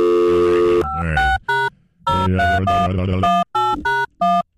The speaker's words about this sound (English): How does he get the dial tone on the air?